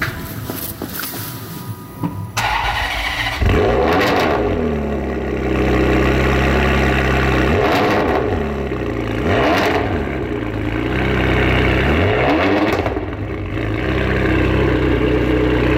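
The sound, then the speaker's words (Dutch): An Italian sports car with a full automatic F1-style gearbox cranks and fires up, then settles into a throaty idle broken by four sharp revs that climb and fall back, loud with no talking. “Weet jij van welke auto je zojuist het geluid hoorde?”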